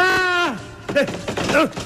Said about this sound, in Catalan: Aquest cop tan matusser és que estan apunyalant a Calígula.